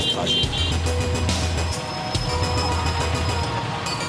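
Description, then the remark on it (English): Busy street traffic in Chennai, a city of 6 million inhabitants: a steady, dense roar of engines with low rumbling motors, sharp high whines and occasional clanks, indistinct voices mixed into the constant noise. “And a merry traffic. Et un joyeux bordel. You have to keep an eye out everywhere to avoid being run over.”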